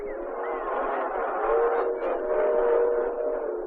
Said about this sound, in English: No. No, there's a train. You gotta get out